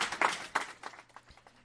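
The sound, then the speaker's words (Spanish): A short burst of applause from an audience at the end of a speech, dense clapping that starts fairly strong and quickly thins out and fades within a couple of seconds. “Unha intervención que remataba con eses aplausos.”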